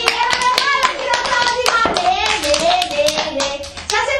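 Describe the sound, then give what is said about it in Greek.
A group of children clapping in a dense, uneven burst of applause that fills the whole moment, with excited young voices chattering and calling out over the claps. “Χειροκροτήστε τη ροδί το ρόδι!”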